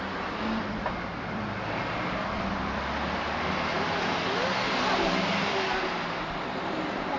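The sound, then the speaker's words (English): Steady, loud road traffic rumbles, with cars sweeping past in a continuous wash of engine and tyre noise and no clear gaps. “It's too dangerous. Too many cars.”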